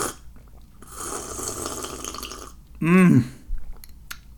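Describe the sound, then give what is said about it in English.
Slurping and sipping of homemade lemonade with ice from a mug, a rushing intake followed by a short gulp and a brief satisfied throaty sound, no talking. “I've poured some into my mug here with some ice, and I'm gonna test it out.”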